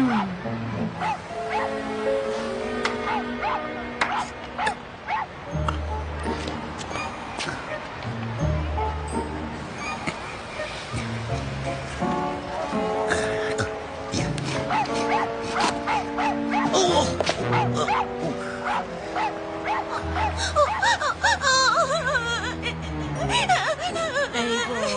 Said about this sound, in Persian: این چرا داره گریه میکنه؟ بیا اینجا، بیا اینجا آقا سگه.